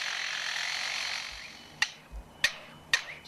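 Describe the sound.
A lyrebird living next to a construction site mimics a power saw with a sustained, raspy whirring hiss that fades out, followed by three sharp, evenly spaced cracks, fairly loud with no voices.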